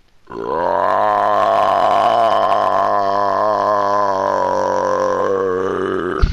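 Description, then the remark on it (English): A single long, loud belch, deep and gravelly, drawn out for about six seconds with a wavering, croaking texture, likely performed by a voice imitating a massive burp. “And I just unleash this horrendous burp, this massive belch, in the direction of the nearest goblin.”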